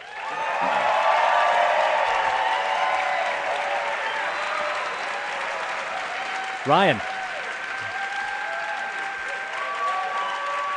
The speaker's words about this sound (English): Lots of applause. Can you hear it coming through the mic there? I can hear it.